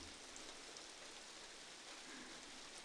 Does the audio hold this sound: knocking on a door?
no